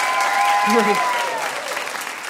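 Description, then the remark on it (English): Audience applause fills the whole stretch as a dense, steady clatter of clapping hands that eases slightly toward the end, with a brief tonal voice-like sound rising over it early on. “I just applaud both of you for being part of that.”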